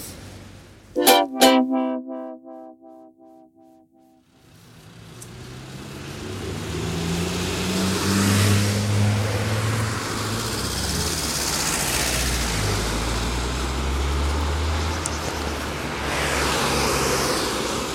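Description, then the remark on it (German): Cars pass by on a road at the western entrance to a village, their roar swelling and fading in a steady stream of traffic noise after a brief, sharp tonal burst at the start. No one speaks. “Es wird mir jetzt hier doch zu laut, zu viele Autos.”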